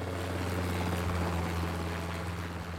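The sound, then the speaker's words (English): A helicopter's steady engine and rotor drone holds loud for the whole stretch, a constant low mechanical roar with a broad whooshing wash and no talking. “arriving by helicopter is not unusual, which brings us to the best way to spend money fast”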